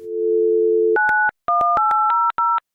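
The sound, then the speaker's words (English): A steady telephone dial tone hums for about a second, then gives way to a quick series of touch-tone keypad beeps in short bursts as a customer service line is dialed, clear with no voices. “You dial up, you get a familiar greeting.”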